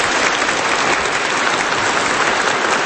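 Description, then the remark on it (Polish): Steady, dense applause from an audience welcoming a guest fills the whole stretch, a loud continuous patter of many hands clapping at once with no voices over it. “Serdeczne brawa na powitanie naszego gościa.”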